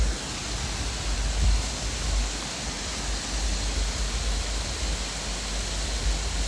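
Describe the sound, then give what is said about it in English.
A steady, dense rush of flowing water, heard from a viewpoint on a hiking trail, roars without a break, broad and hissing like a stream or small waterfall, with no voices over it. “This was rather lovely as it gave us an opportunity to like hear the rushing water, even though we weren't that close to it, which again, I agree with you.”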